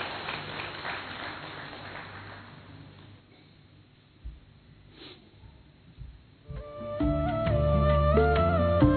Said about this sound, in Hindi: एक बार जोरदार तालियों के साथ आप अपना स्वागत स्वीकार करें।